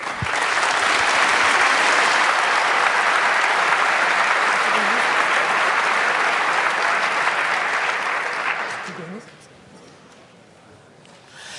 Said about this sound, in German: Ja, herzlich willkommen. Vielen Dank für den warmen Applaus.